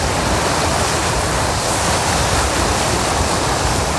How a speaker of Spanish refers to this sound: Esa ola de calor, bueno, pues la va a pasar mejor el presidente del gobierno escuchando las olas del océano que rompen en la piedra volcánica, piedra negra, de la isla de Lanzarote, que es donde está pasando las vacaciones.